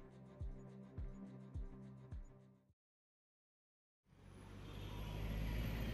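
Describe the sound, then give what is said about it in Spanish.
A steady, low rumble of road traffic swells up after a short silence, broad, like vehicles passing along a busy avenue that crosses wasteland between apartment complexes, at a bus stop; a beat-driven musical passage comes before it. “La avenida es una especie de páramo que atraviesa terrenos con vocación para la inversión inmobiliaria. Entre un residencial de apartamentos y otro, la parada.”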